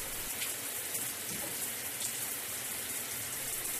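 A steady, continuous hiss of water pouring from a shower in a bathroom, bright and spattery, running evenly without pause, with no voices.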